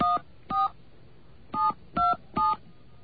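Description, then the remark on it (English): Five short electronic telephone keypad beeps, the 1 key pressed while navigating an automated phone menu, each a steady dual-tone chirp, pressed in an uneven rhythm with a longer pause after the second, clear against a faint background hum. “I might have hit too many ones. I'm going to try it again.”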